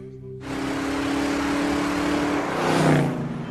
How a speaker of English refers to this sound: 6:43. Jack roars to the streets in the Pontiac.